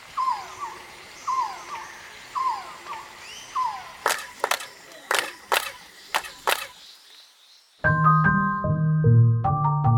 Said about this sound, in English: it imitates the sounds of the quetzal bird, which is a very important ceremonial bird to the Mayans. Quetzal birds are found in the very same area of Mexico. They were celebrated by the Mayans, and as you'll hear, they do sound similar.